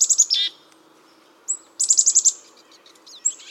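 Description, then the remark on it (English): Hungry pine siskins at a thistle feeder chatter in quick bursts of high, buzzy chirps and rapid trills, fairly loud, with short pauses between volleys over a faint steady background hum. “It's the chatter of hungry pine siskins at a thistle feeder.”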